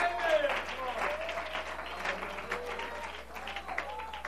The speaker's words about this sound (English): Can somebody somewhere under the sound of my voice clap your hands unto the Lord tonight?